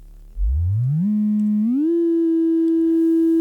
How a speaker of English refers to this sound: So, with an electronic analog synthesizer, you can produce tones. There's a patching panel where you push pins into, and you can start by just producing a simple oscillator tone. Here's a simple sine wave.